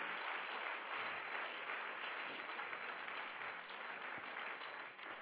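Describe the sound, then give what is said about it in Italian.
An audience breaks into sustained applause for the Lord, a dense steady wash of many hands clapping at an even loudness for about five seconds, with no voices standing out. “Fate un applauso al Signore.”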